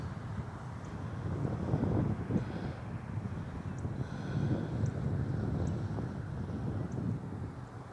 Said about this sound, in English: You can hear the cars on the road behind me.